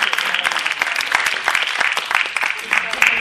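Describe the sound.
A crowd claps steadily, a dense crackle of many hands at fairly close range, with some murmuring voices mixed in under the applause.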